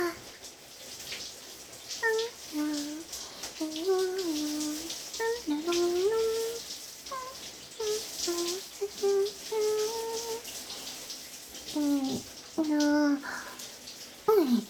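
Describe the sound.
Steady hiss of shower water spraying throughout, fairly loud, with a soft voice speaking intermittently over the spray, as the shower wets someone all over before shampooing.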